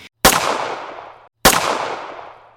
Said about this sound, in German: Er feuert zwei Schüsse auf die Menschen auf dem Rücksitz im Auto. Die Frau trifft er im Unterleib und den Mann im Hals.